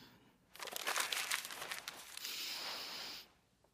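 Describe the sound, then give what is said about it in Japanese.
A strange paper wrapper crinkles and rustles as it is peeled off a plastic drink bottle, a continuous crackling burst lasting about three seconds with no talking. “このペットボトルなんか変な紙が巻いてある。”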